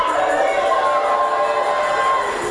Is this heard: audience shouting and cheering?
yes